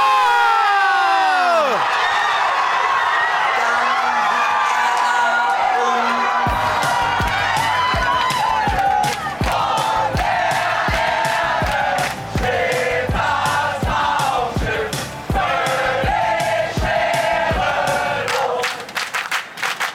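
A packed crowd of over 51,000 in the sold-out Düsseldorf Arena erupts in loud, sustained cheering after a goal that makes it 1:0 after 6 minutes, with high whoops and shouts, then settles into rhythmic clapping beats under the continuing roar.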